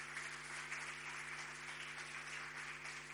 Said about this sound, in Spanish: Un aplauso muy fuerte para ella.